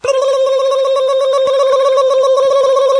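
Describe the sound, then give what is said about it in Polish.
A steady electronic tone holds for about three seconds, loud, like a phone line ringing while a call is placed to the shop that sold the caller eggs, about a dairy matter. No one speaks over it. “postanowiłem wykonać telefon w kwestii nabiałowej.”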